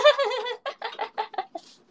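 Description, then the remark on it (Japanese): A voice imitates a pigeon cooing: one drawn-out throaty note, then a rapid run of short, choppy bursts that trail off quieter. “ハトだよ、それ。”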